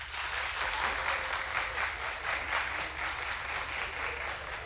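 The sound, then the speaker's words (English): An audience claps steadily for several seconds to show they are participating in Galentine's Day, a dense, even wash of many hands at moderate loudness with no voices standing out above it. “Clap if you're participating in Galentine's Day.”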